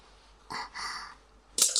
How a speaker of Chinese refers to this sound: 哎呀，笔掉了。